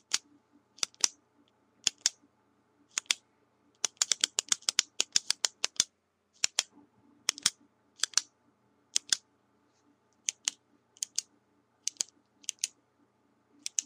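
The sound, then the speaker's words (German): Ballpoint pens being clicked: sharp, crisp clicks in an irregular pattern, sometimes single, sometimes in rapid bursts, continuing throughout with no voices. “Ja, ich nehme jetzt mal das Klicken von Kugelschreibern, Herr Müller.”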